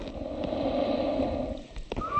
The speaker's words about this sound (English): A giant Galapagos tortoise hisses as visitors get too close to it.